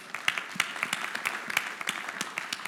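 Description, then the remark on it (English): An audience claps in a dense, steady burst of applause, many sharp overlapping hand claps at a moderate level with no talking over it. “And because of the faith, yeah, clap for that.”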